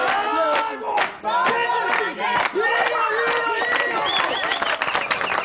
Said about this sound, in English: They dance kicking and clapping.